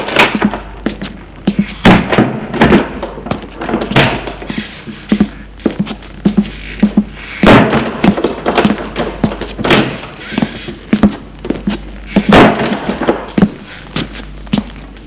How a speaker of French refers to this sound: Toujours les pas.